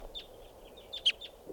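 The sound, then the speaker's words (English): A bird by a camp gives a few short, high chirps at uneven intervals, the sharpest one a bit louder than the rest, over a soft low background rumble. “There's a bird right here.”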